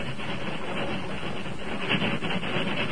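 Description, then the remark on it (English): A steady, loud rumble of a train and its engine rolling along the track over the crest of a hill, heading westward, with faint rhythmic clatter from the wheels running through it the whole time. No voices. “The engine reached the crest of Jackknife Hill and continued westward without incident. When the train had passed”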